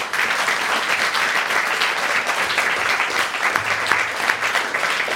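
A crowd applauds steadily for several seconds, a dense, even wash of many hands clapping at once with no break or voices standing out.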